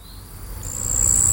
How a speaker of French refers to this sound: Là, le grillon des marais.